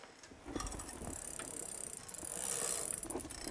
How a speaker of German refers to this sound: Welche Geräusche sind oft zu hören? Was lustigerweise recht häufig an ist, ist die Schleifmaschine. Ansonsten ist es sehr ruhig. Also klar, das häufigste ist das genau irgendwie so metallisches Klappern.